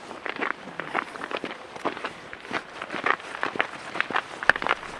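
Steady footsteps of shoes crunch through snow at a brisk walking pace on a slippery winter walk, each step a short dry scrunch, with no voices.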